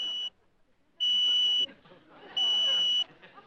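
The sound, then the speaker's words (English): A loud, shrill electronic beep from a cooking appliance sounds three times in long, evenly spaced tones, signalling that a chicken lunch is ready, with faint background noise and murmuring between the beeps. “Yes, it beeps when it's ready.”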